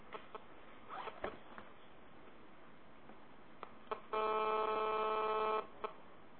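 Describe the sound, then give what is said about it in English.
A mobile phone that was not properly switched off gives off a single loud, steady electronic buzz lasting just over a second, preceded by scattered faint clicks and rustling, with no talking. “Sorry, it was my phone that was not properly off.”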